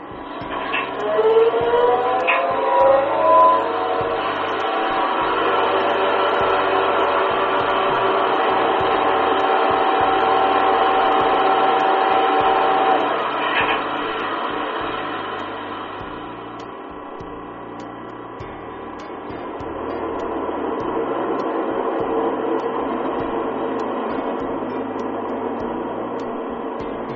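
Steady interior hum of a Rhaetian Railway Regio Express train sitting idle, its departure delayed a few minutes while waiting for a connection, with a constant ventilation-like whoosh and low engine drone, a few faint clicks and creaks, and the noise easing slightly partway through.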